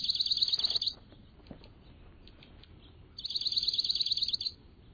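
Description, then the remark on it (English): Dark-eyed junco calls: two loud, high, rapid trills, each lasting about a second, separated by a quiet pause with faint background noise. No voices. “Enjoy these dark-eyed juncos now and through the winter.”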